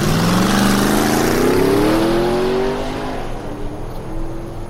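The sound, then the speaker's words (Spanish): The engine of the cheapest car available revs up loudly in Monterrey, its pitch climbing steadily as the vehicle accelerates away, then settles into a lower, rougher hum as it drives off. No one speaks. “Agarré el carro más barato, güey.”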